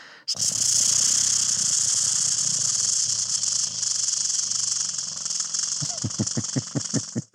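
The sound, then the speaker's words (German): A bird's dry, rattling churr runs steadily for several seconds without a break, then gives way to a quick series of rhythmic lower knocking pulses near the end. No voices are heard. “Dann klingt es auch nicht so schnurrend, sondern es klingt dann richtig rasselnd.”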